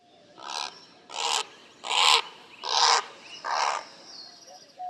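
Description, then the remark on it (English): A great blue heron calling in flight in Sonora, Mexico, gives five harsh, guttural croaks in a steady series, each a broad raspy burst, against a quiet outdoor background. “Here's a great blue heron in Sonora, Mexico, calling in flight.”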